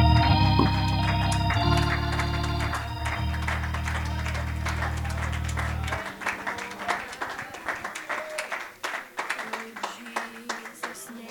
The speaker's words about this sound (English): Why don't we clap our hands unto the Lord today?